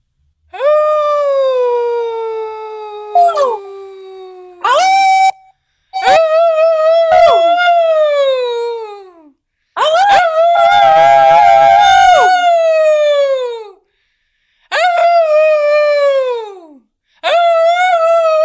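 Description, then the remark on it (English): People howl together in long, wavering wails that rise and slide downward, repeated in about six loud bouts with brief breaths between them. At one point several voices overlap into a thick chorus. “Have a wonderful evening and go outside and howl when it gets to be 8 o'clock.”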